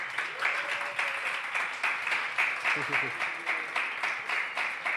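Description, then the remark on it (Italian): A burst of dense, crackling applause from many hands, steady and fairly loud throughout, with a faint voice murmuring briefly underneath. “Questa è una frase di quelle da applausi proprio che fa scena.”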